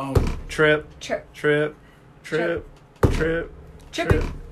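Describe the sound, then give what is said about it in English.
Cans get knocked over in a few separate bumps and thunks, one at the start and two more later, each abrupt and fairly loud, while people talk throughout. “Stop knocking over cans.”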